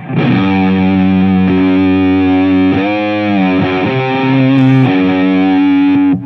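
Heavily fuzzed electric guitar with a thick, saturated Big Muff-style distortion, sustained chords ringing loud and dense for about six seconds, with a few chord changes and no talking.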